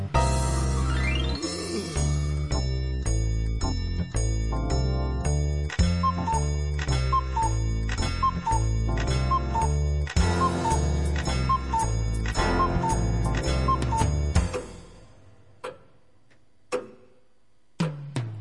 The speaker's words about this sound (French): Salon de Napoléon, il y a un réveil qui se gratte l'oreille. Tic-tac, tic-tac, que se passe-t-il? Oh, quelle heure est-il? Tic-tac, tic-tac. Pas difficile, il est minuit pile.